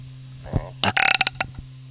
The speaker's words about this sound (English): Belching. Gold belching.